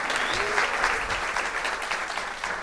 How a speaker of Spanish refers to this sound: Aplauso para Mao, por favor.